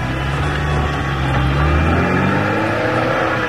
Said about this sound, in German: Bumm, bumm, bumm, jetzt mach dein Motor bumm. Mann, oh Mann. Jetzt verstehe ich, wieso man das Ding Explosionsmotor nennt. Unser armes Auto.